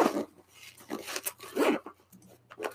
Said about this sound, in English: Now, opening, there's a little pull tab and then a zipper.